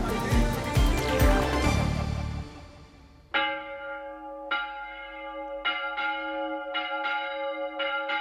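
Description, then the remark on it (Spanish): A church bell in the town of Palos, Spain, rings out in a string of loud, resonant strikes with long humming decay, rung as a royal decree is read out to the townspeople, coming in after a few seconds of dense, rushing noise. “Pues a toque de campana se lee ya esa real provisión para poner en conocimiento de los paleños lo ordenado por los monarcas.”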